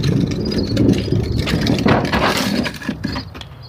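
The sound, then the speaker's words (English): A wheeled trash can rumbles steadily across pavement as it is brought up from the curb to the back gate, a continuous rolling clatter with a few sharper knocks near the end and no voices. “That rumble was my trash can coming up from the curb.”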